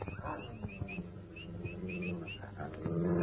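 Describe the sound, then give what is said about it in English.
Dogs growl low and steady at night, breaking into a few sharp barks, while high bird chirps repeat in the background. “What the dickens is the matter with the dogs?”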